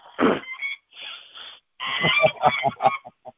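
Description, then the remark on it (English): Kept geese and a duck calling: a loud honk, a drawn-out nasal call, then a rapid run of squawking quacks and short honks tapering off into a few quiet clucks. “But anyway, there's our geese. Yes. And ducky.”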